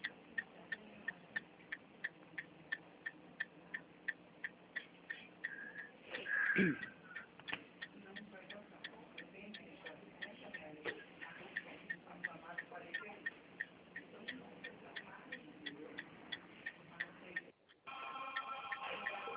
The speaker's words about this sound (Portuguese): Tô verificando aí que você tá com o pisca alerta aí, né? Tô no carro aqui.